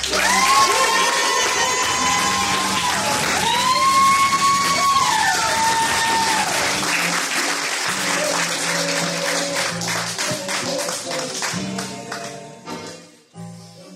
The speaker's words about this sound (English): Give it up for the person that does all the work. Y'all clap your hands